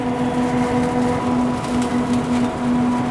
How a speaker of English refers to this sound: In this field of high-end Chardonnay grapes, a tractor specially designed to pick the fruit while driving above the rows of vines makes its way down another row.